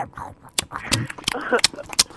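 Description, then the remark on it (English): A voice makes exaggerated chewing and lip-smacking mouth noises, a quick series of wet clicks and smacks, imitating someone eating noisily. “Here, this is my eating.”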